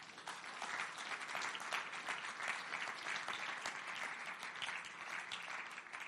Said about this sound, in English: Hey, give them a clap.